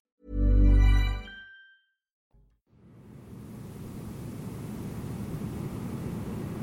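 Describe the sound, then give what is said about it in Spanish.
A loud, low harmonic buzz swells and fades, then after a brief gap a steady wash of hissing static from a screen fills the rest. No voices. “Desperté por el zumbido de la estática en la pantalla.”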